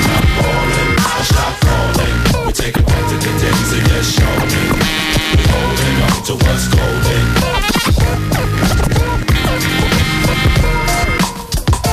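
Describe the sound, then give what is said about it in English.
Loud DJ scratching on turntables, quick back-and-forth record sweeps cutting over a dense, steady hip-hop beat for the whole stretch, with no one talking. “… on the ones and twos”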